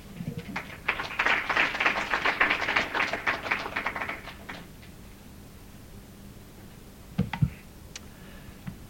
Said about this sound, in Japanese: それでは皆様盛大な拍手で久保田会長をお迎えください。